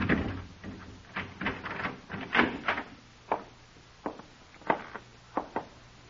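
A door being unlocked with keys and opened, heard as a string of sharp metallic clicks and clunks at irregular intervals, some louder than others, with no voices.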